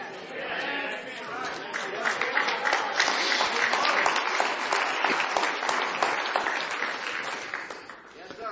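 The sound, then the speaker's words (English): An audience in a church claps by hand in a dense, steady burst of applause lasting several seconds, many overlapping claps forming a loud, even wash with a faint murmur of voices underneath. “Now, was that hand clap real?”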